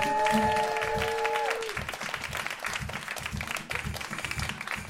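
An audience breaks into sustained applause, a dense steady patter of many hands clapping, as the show's first guest is brought out for the cat quiz. Bright held musical tones sound over the clapping for the first second and a half, then the applause carries on alone.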